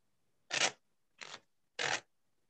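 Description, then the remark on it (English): During a card trick, three short, crisp papery swishes of removed playing cards being slid back into the deck, spaced evenly with brief pauses between them, clear with no talking. “I'm going to lose the cards in the deck.”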